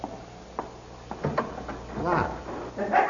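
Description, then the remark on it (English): Someone tries the handle of the locked belfry door: a series of short clicks and clunks as it rattles without giving, followed by a brief creaking strain and another jiggle at the end. “He can't be, though, because the door's locked. I think it's locked.”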